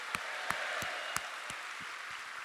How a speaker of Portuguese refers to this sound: Quem crê, dá uma salva de palmas e um glória a Deus bem alto.